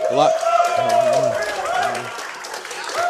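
Ice hockey teammates in the crowd at Crossroads in the Hogan Center cheer and clap steadily as their co-captain comes to the stage, with loud shouts and whoops rising over a dense wash of applause that carries on throughout without a break.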